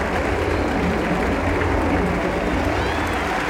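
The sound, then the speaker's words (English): A group of children clap and cheer together as twins get gold medals for winning a race, a dense, steady wash of rapid clapping mixed with excited voices that stays loud and even throughout. “All the children clap and cheer.”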